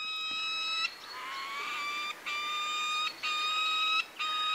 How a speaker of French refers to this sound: Ah oui, c'est des cris assez aigres. Ça, c'est typique des faucons, des cris assez aigus et aigres.